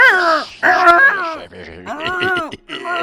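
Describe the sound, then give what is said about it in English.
A voice imitates a hedgehog with a run of squeaky, whiny, wavering cries in several short bursts, fairly loud, with brief breaks between them and no ordinary talk. “One, we shall make a sound like a hedgehog in three, two, one.”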